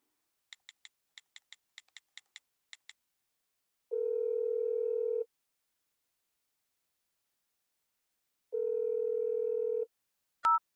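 A quick series of short phone keypad beeps as a number is dialed to return an urgent call, then two long, steady telephone ringing tones with a pause between, ending in a brief click; no voices.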